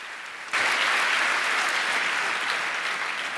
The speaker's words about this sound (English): So give us a welcoming applause for our talkers